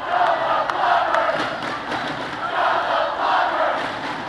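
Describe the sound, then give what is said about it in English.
A large crowd cheers and roars steadily at a John McCain campaign rally at night in Minner, Ohio, forming a cheering section for Joe the Plumber. It is a dense wash of many voices with a few sharp shouts and claps poking through, swelling slightly toward the end. “And by the time the pair reached Minner, Ohio, for a rally last night, Joe the Plumber had his own cheering section.”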